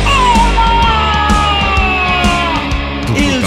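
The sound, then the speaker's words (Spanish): A man imitates the sudden scream of a clown who jumped out when a door was opened: a loud, raspy, drawn-out yell held for several seconds, wavering and growling as it goes. “Que brinca un puto payaso, quién sabe de dónde mergas, y me pega un grito de tipo”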